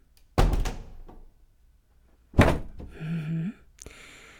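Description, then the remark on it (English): A heavy door thuds shut twice, followed by a short grinding scrape and a sharp click as a lock is turned. The sounds are fairly loud, with no talking. “Lock the door.”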